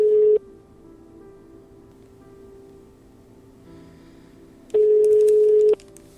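A telephone number being dialed to place a call: a steady mid-pitched telephone tone cuts off at the start, then a soft hissy line, then a second identical tone sounds for about a second. No one speaks.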